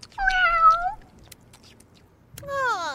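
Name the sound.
cat meowing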